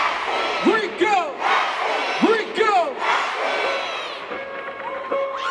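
A dense crowd in a concert pit roars and screams without pause, bouncing, with two loud, pitch-swooping chant shouts about a second and a half apart rising above the din as the performer's DJ leads a chant, then a steady sustained cheer.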